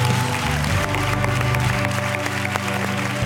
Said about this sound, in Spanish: Un aplauso para ellas, por favor.